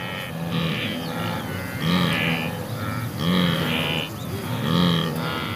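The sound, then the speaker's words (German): A herd of wildebeest in the Serengeti grunting continuously during their migration, with overlapping low, nasal calls rising and falling in repeated waves, with no voices present. “Sie sind es, die ich für euch eigenhändig vor Ort aufgezeichnet habe und die ihr hier hört.”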